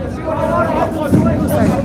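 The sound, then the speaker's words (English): A dense crowd of many people inside a prison shouting and calling out at once, screaming the names of their relatives, loud and continuous with no pauses, the overlapping cries blurring into an agitated roar. “They were screaming the names of their relatives who had been lost into this prison.”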